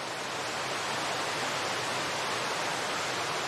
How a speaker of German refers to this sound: Du bekommst eine leise Ahnung davon, welche beeindruckende Kraft vonnöten ist, um die Millionen Liter Wasser sekündlich in die Tiefe stürzen zu lassen.